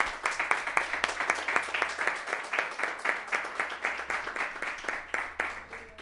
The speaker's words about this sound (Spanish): Tengo mucha ilusión de hacer esto y quiero un aplauso fuerte del Mediterráneo, por favor.